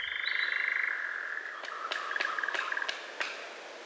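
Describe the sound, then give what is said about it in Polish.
A European nightjar's dry, mechanical churring trill winds down and breaks into a series of sharp wing claps, about half a dozen quick snaps in an uneven rhythm, with no voices. “I tych skrzydeł także używa do wydawania dźwięków, bo kończy swoją pieśń często klaskając, może nie dla siebie, myślę, że dla swojej wybranki.”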